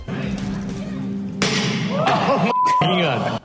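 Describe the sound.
A loud, sharp thud of the window glass of Tesla's new futuristic pickup truck being struck and cracking at its unveiling, cutting through a murmuring crowd, followed by a second hit and voices reacting right after.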